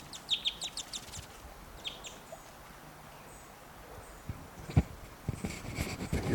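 birds fighting

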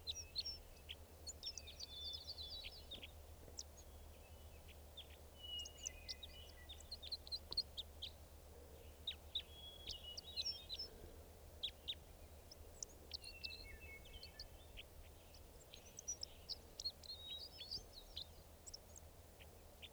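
wild bird calls

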